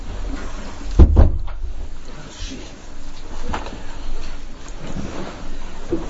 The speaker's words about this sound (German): Und vielleicht würdest du die andere Tür auch zu machen? Die da draußen zu dem anderen Zimmer, oder? Macht ihr die Tür dazu?